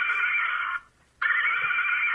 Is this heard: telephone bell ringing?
no